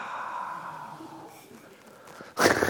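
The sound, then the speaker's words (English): A long, drawn-in breath, fairly soft, ends in a sudden loud, forceful exhale. No one speaks. “Breathing in, wow. Breathing out, wow.”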